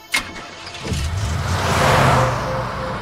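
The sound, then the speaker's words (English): A sharp thud, then a car engine starts and revs up, its rumble and whining hum building steadily as the car pulls away. No one speaks. “gets in the car and drives.”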